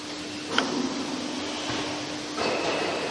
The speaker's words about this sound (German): Das war die Fallbremse.